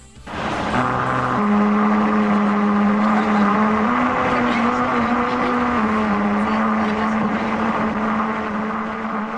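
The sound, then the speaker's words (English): A car's rubber tires roll over a road with a special grooved surface, producing a loud, continuous droning hum whose pitch steps up and down in a slow melody for several seconds, with road rumble underneath. “Oh, those dulcet tones you're hearing is the sound of a car driving on a road with a special groove surface.”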